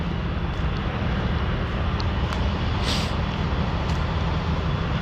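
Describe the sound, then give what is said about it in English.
Heavy trucks and construction machinery tearing up a road rumble in a steady, dense roar that dominates the scene, with a few brief metallic clanks and hisses cutting through the constant engine drone. “We're getting ready to tear up the road here. So there's big trucks and equipment.”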